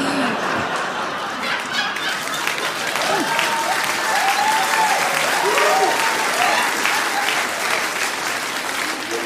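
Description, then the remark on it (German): An audience at a comedy performance claps steadily for about nine seconds after a punchline, a dense, even wash of applause mixed with scattered laughter and a few voices calling out. “Aber jetzt nicht mit Applaus gerechnet an der Stelle.”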